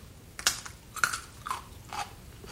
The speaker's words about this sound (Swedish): Jag gapar och sträcker ut tungan. Det ligger en bit av något på skeden. Jag tar in den i munnen och tuggar.